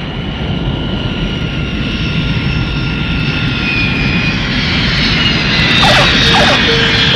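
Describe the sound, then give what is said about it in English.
A jumbo jet roars loudly and steadily overhead as it comes in to land at an airport, its deep engine rumble topped by a high turbine whine that shifts in pitch near the end. “A jumbo jet's coming into land.”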